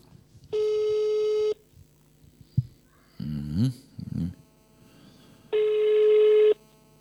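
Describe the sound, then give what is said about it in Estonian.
A phone line rings out twice as a live radio host calls a listener: two long steady electronic ringback tones separated by a pause, with a brief muffled voice sound in the gap between them. “Nii ja siis meil eelistas veel üks vend, siin ma proovin ta kätte saada praegu.”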